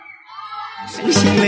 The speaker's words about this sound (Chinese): 让朋友们玩得开心的话，有点尖叫声来听一下吗？